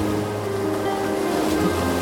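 Loud, continuous roar of stormy ocean surf whipped by storm winds, dense and churning, with no pauses between waves and a low rumble underneath. No voices.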